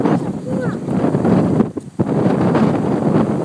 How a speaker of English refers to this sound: Ugh, it's a beautiful day. It's beautiful out here by the river with the breeze blowing.